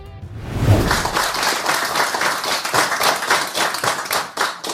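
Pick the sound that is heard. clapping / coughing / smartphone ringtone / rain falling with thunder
clapping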